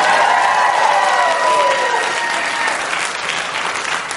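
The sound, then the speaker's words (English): A crowd applauds loudly and steadily throughout, a dense wash of clapping with a few faint whoops rising early on, then easing slightly toward the end. “I'm in Texas and I'm just going for the applause, so I'm going to pick Beto O'Rourke”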